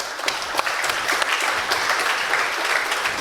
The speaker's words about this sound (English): And a special thanks there to the management of the university, because the rectorate, because they allowed us to do this. I think this is an applause.